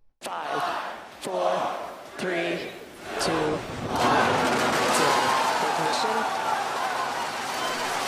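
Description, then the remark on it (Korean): A few short, evenly spaced shouted calls of a launch countdown give way to a crowd erupting into loud, sustained cheering and whistling that holds steady for several seconds, as a SpaceX Falcon Heavy rocket lifts off from Kennedy Space Center, Florida. “네, 사람들이 발사 초입기를 하고 이 발사된 로켓이 하늘로 치솟자 환호하는 소리 잠시 들으셨는데요.”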